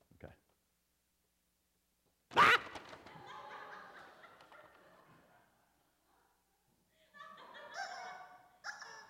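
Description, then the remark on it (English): A loud, sudden chicken squawk bursts out and trails into a few seconds of raspy clucking, then a second shrill squawking bout follows after a short pause. “You get a chicken.”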